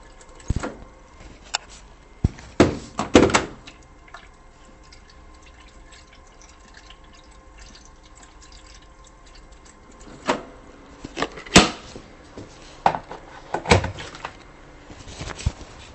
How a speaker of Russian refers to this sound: Сейчас я чайник поставлю.